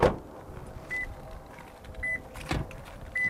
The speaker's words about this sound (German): hält das Auto an, steigt aus und blickt auf die Szene.